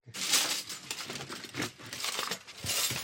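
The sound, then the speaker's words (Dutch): Metal cutlery used at the Soepfestival clinking and rattling in quick, irregular bursts as the basement of atelier Pexpo on the Van der Pekstraat is cleared out, bright jangling clatter as utensils are shifted and jostled together, with no voices. “Oh, dat klinkt als bestek.”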